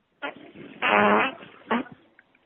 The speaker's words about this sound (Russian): Мой пердёж. Я пердела тебе в трубку.